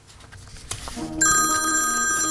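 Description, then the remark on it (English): A telephone starts ringing at 6:15 in the morning in Dublin, Ireland, with a call from New Jersey, after a second of quiet shuffling and a couple of soft knocks, its bright, steady ring loud, continuing to the end. “This is way too early to be talking on the phone.”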